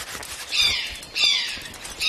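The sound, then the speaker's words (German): A Eurasian jay gives three harsh, raspy screeches, each about half a second long and evenly spaced, fairly loud and clear over a quiet outdoor background with no talking. “Ha, den Ruf kenne ich. Das war ein Eichelher.”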